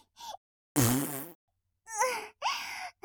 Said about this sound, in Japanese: どうしよう、楽しくなってきちゃった。臭いおならいっぱいいっぱい出すのめっちゃ楽しい。お腹の中のニンニクが大暴れしてガスをたくさん作っちゃってるんだ。お腹の中でガスがどんどん作られていっちゃうよ。